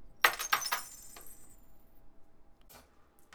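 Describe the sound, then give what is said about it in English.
A handful of coins drops onto a hard surface in a quick burst of bright metallic clinks, then rings briefly before a couple of scattered, fainter jingles as the last coins settle. “Handful of coins dropping.”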